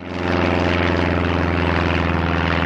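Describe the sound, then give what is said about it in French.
A light propeller plane's engine drones steadily and loudly, a continuous buzzing hum with a throbbing prop beat that swells in at the start and holds throughout; a training plane of the flying club at Alençon, France. “C'est génial parce qu'on peut se dire qu'à 16 ans, on peut voler en avion, alors que tant qu'on n'a pas 18 ans, on ne peut toujours pas conduire de voiture.”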